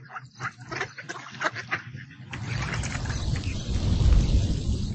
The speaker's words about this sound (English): Look, it's raining now. Hurry, let's go under that tree.